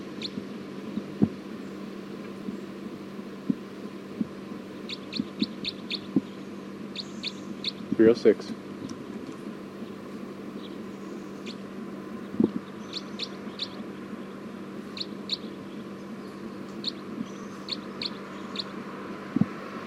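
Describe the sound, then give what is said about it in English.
A bird calls in short, high chirps that come in small clustered bursts at intervals, fairly faint, over a steady low hum and light background rustle, with no talking. “Recording this bird 310.”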